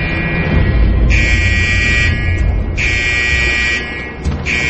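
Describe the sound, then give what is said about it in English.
A fire alarm in a hospital psych ward blares in two long, harsh electronic buzzes separated by a short pause, loud, over a constant low background rumble with no one speaking. “It's the fire alarm in the psych ward.”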